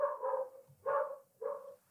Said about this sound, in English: The dogs of Bushwick are barking.